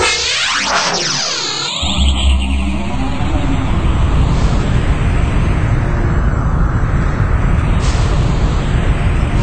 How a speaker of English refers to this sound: Oh, there's a massive tornado above us! Oh, no! Oh, you dropped us down right in the middle of the vortex!